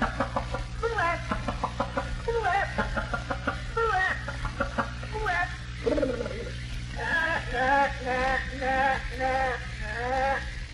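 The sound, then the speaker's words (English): A hen cackles after laying an egg in a loft, then flying out the window and strutting around: a rapid run of sharp clucks breaking into longer, rising squawks, repeated throughout over a low steady background hum. “Up in the loft, there's a hen with his laid an egg and comes to the window and flies out and struts around. Heckling.”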